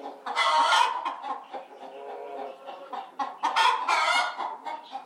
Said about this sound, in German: Mega cool, diese Hühner, oder?